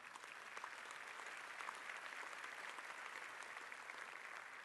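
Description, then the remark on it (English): An audience claps steadily throughout, a dense, even wash of many hands applauding at once, sustained at a consistent moderate level with no voices standing out. “Yeah, applaud, come on.”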